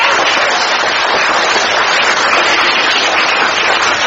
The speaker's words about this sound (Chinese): 鼓掌